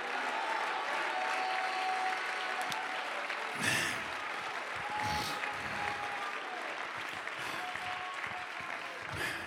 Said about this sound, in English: I wish you'd clap your hands and shout hallelujah right now.